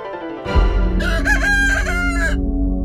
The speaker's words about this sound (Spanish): El gallo.